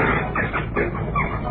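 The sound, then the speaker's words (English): A bird call of rapid, clucking, chicken-like squawks fills the short moment, loud, with a muffled, old-recording quality and no talking. “Now, ladies and gentlemen, the sound of this week's bird.”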